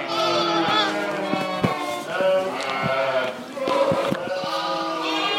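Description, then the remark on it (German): A flock of small sheep on a moor pasture bleats continuously, many overlapping voices calling at once, some loud, others fainter, with no pause in the chorus. “Es ist ein relativ kleines Schaf, was sehr gut mit dem Futterangebot im Moor zurechtkommt, mit der Nässe gut zurechtkommt.”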